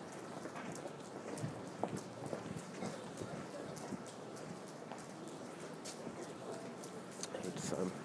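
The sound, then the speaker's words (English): Light, unforecast rain patters steadily on surfaces along a pavement near Ludgate Hill and St. Paul's Cathedral, a dense hiss of scattered drops with occasional sharper taps, mixed with rhythmic clopping steps. “Trying to rain, which I don't think was forecast, and I'm not really dressed for it.”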